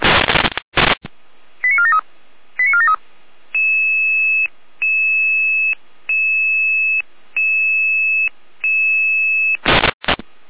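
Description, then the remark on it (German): German fire brigade radio alerting tones for a traffic accident call on the B85 midway between Probstzeller and Gabe Gottes at 7:49: a burst of static, two quick stepped tone sequences, then six steady electronic tones pulsing evenly, ending in another crackle of radio noise. “In Alarmierung.”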